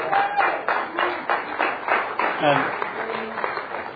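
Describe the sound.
Audience applause at a Narcotics Anonymous fellowship talk, for Greg Pierce, who wrote the NA tree, fills the whole stretch: a dense, steady patter of many hands clapping at moderate loudness, with a few voices murmuring underneath.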